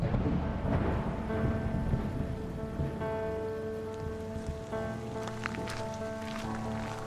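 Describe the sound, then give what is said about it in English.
Steady heavy rain pours down in a dense, hissing wash on the banks of the Lanco River, with sustained musical tones layered over it throughout. No one speaks. “In heavy rain the following day, the inquest convened on the banks of the Lanco River.”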